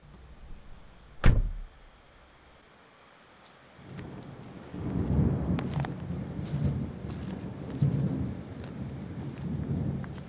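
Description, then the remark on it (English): Steady rain patters on a person standing by a car door, with a sharp knock or crack near the start, then a deeper rumbling swell of heavier rainfall or thunder building up in the second half. “you slowly come to realize you've been standing here in the rain for about a minute.”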